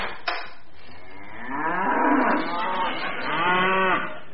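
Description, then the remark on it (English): A cow moos loudly, a long drawn-out low call that swells, dips briefly, then rises again before trailing off, heard on its own. “cows come home.”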